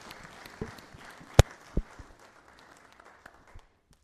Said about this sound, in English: God bless you. Let's give him a clap offering. Eh? He did a great job.